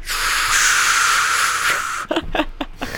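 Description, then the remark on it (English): A heater in Kansas in wintertime hisses loudly and steadily for about two seconds, a broad airy rush, then breaks into several short choppy bursts of hiss toward the end. “I gotta go turn the heater off because we're just hearing.”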